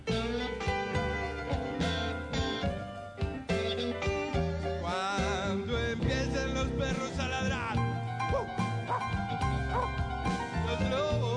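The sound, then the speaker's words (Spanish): Several dogs bark and yip in quick, overlapping bursts, loud, over a steady dense background of tonal sound that continues throughout. “Cuando empiecen los perros a ladrar y los lobos a aullar.”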